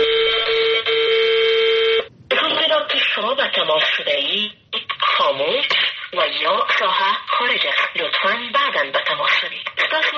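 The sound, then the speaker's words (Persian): A steady, buzzy phone call tone holds for about two seconds, then cuts to a recorded message saying the phone is switched off, spoken by a thin, telephone-filtered female voice until the end, on a call to the phones of ministers and officials of Ashraf Ghani's government in Afghanistan. “هیچ کس نمی‌داند این صدای زنی که خبر از خاموش بودن دستگاه تلفن را می‌دهد تا هفته آینده به یک صدای مرد تبدیل می‌شود”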